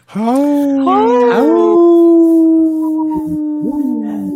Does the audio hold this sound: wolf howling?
yes